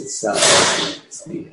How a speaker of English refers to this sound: It's the door outside.